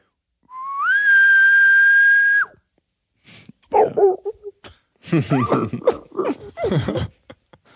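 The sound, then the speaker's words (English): A person imitates a far-off bull elk whistle: one airy, high tone that slides up and holds steady for about two seconds, then stops abruptly before voices and laughter follow. “Yeah, do your far off bull whistle.”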